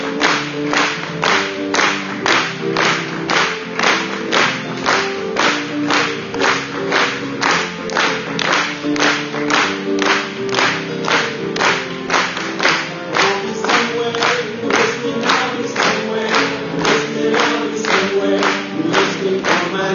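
An audience at an evening church service claps hands together in a steady, even rhythm, roughly two claps per second, loud and sustained throughout, with music or singing running underneath.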